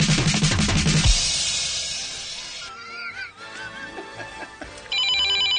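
A telephone rings with a bright, warbling electronic trill, following a loud, jumbled burst of musical tones and fading chimes. No one speaks.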